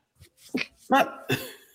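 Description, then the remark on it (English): A sudden sneeze with a few sharp, noisy bursts in quick succession, loud and abrupt against an otherwise quiet background, with no talking. “That made you sneeze.”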